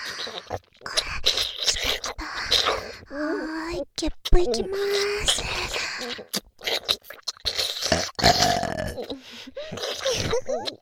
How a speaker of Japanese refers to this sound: 出ちゃった。こういう感じでゲップ聞かせちゃいますね。